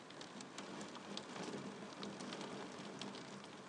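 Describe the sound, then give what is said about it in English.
Heavy December rain pours down steadily, a dense hiss with sharp droplet splatters hitting a surface throughout, unbroken and fairly loud with no voices. “Lying in bed, listening to the rain absolutely hammering down.”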